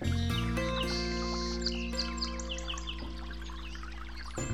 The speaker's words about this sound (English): And yonder, in the deep shade of overhanging foliage and vines, a divine place for waiting. Sonically, we have the interplay between the brook itself and the bird song, and it's really an uplifting experience.